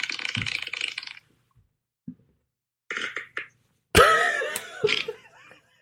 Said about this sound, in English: Those farts have been brewing for a while.